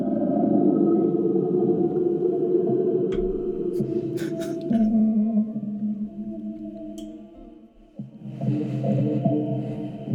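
Eerie, drawn-out whale-like calls of an Elasmosaurus moan and warble through a murky underwater wash, with a few sharp clicks cutting in; loud and continuous, with no voices.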